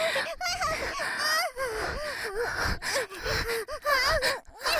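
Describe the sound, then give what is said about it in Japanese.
A woman pants and moans without pause, breathy gasps broken by wavering, rising-and-falling vocal tones, fairly loud and steady throughout with brief catches of breath. “私の体に愛液をこすりつけるように抱きつきながら、喘ぎながら、もっともっといやらしい音させて。”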